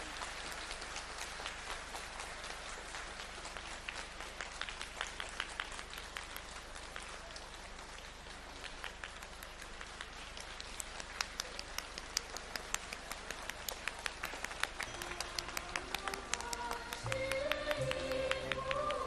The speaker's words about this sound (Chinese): 接下来，尊敬的卢军宏台长将为我们慈悲开示，让我们用最热烈的掌声恭请我们尊敬的卢军宏台长。